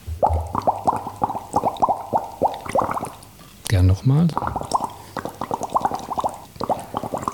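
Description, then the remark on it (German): Air blown through a straw into water, a stylized stand-in for the bubbling of electrolysis that produces hydrogen, makes a fast, steady stream of gurgling bubble pops. It stops briefly while someone says a few words, then the bubbling starts up again. “Also was wir jetzt da hören ist, sagen wir jetzt ein bisschen stilisiert, weil eigentlich war das jetzt nur ein Strohhalm mit Wasser.”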